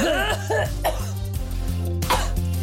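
A forceful cough, repeated several times in quick bursts to clear the throat, loud with harsh rasping breaths between them.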